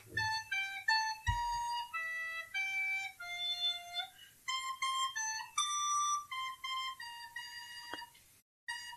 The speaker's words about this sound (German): vielen Dank für deine Blockflötenkünste.